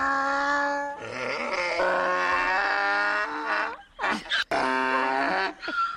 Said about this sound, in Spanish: Venga, también se ha hecho un hueco en nuestra granja, ¿ah?, el burro.